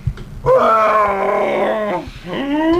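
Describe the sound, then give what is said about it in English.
A person lets out a loud, drawn-out howl of pain lasting over a second, followed after a short gap by a second rising howl. “I think we're going to need to let out a howl of pain.”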